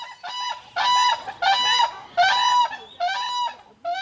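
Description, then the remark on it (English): Endangered whooping cranes call loudly, a run of about six harsh, bugling honks in quick succession with brief gaps between, and no voices. “Healthy wetlands in Canada and in Texas are essential to the future of the endangered whooping crane.”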